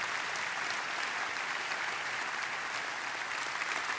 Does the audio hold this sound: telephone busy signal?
no